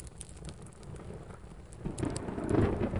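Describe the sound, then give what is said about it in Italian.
Steady rain hisses throughout a thunderstorm over the city while a deep rumble of thunder swells and grows louder over the last second. No voices are heard. “Per questo quel 17 aprile, sotto il temporale che affligge la città, la follia predatoria è al suo culmine.”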